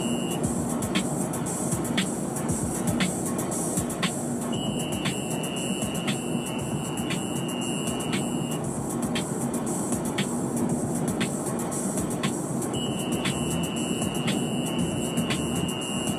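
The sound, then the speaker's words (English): A thin, steady high-pitched whistle sounds in long stretches of several seconds, cutting in and out over a constant dense rumbling noise, with faint regular ticks throughout. “Really off-putting whistle.”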